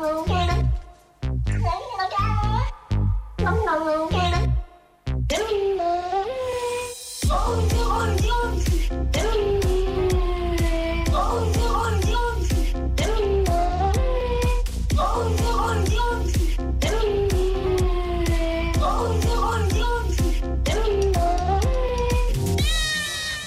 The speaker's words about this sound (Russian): Это коты, честно. Это честно коты, и вы можете это увидеть